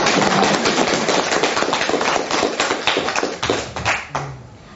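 A burst of applause from a group after a story about a practice period is told; dense overlapping hand claps sustained loudly for several seconds before thinning out and fading at the end.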